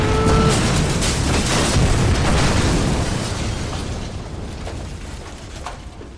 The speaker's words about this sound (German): Und der Handwerker wurde durch die Explosion 300 Meter weiter geschleudert.